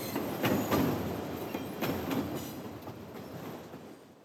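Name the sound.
train running on rails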